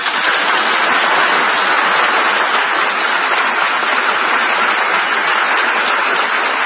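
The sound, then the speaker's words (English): Studio audience applause on the radio programme Screen Director's Playhouse, presented by Pabst Blue Ribbon, for the star Jean Crane after Apartment for Peggy, a dense, steady wash of many hands clapping that stays loud and even for several seconds with no voices over it. “So much for your applause, but as an actress, I know only too well how much of it rightfully belongs to George Seaton, who directed Apartment for Peggy.”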